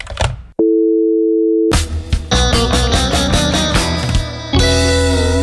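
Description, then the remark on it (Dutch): A telephone busy tone after the called man quickly hangs up on a De Verborgen Telefoon prank call: a steady, clear electronic beep lasting about a second, followed by loud music kicking in. “En hij hong heel snel op en daarbij zei hij van, wie heb ik nou toch weer aan de lijn?”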